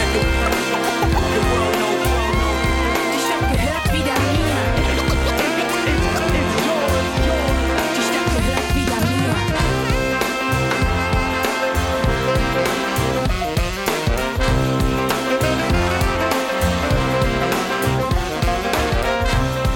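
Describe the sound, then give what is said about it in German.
A German hip-hop track plays loud and steady, with a punchy, rhythmic beat, deep bass pulses and dense layered instrumentation running throughout, rapped vocals woven into the mix. “Set of some German hip-hop there that we kicked off with … from …”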